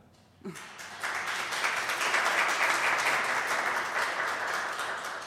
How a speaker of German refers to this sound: Wir sagen Danke, der Applaus gibt dir recht.